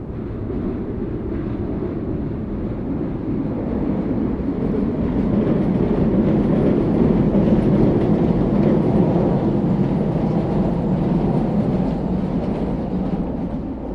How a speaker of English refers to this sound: And that rumble that you might be able to hear. It's a train passing overhead.